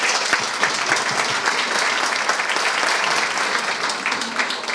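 Loud, sustained applause from a large audience for Malvinas (Falklands) war veterans and their families, dense clapping filling the space steadily for several seconds without pause.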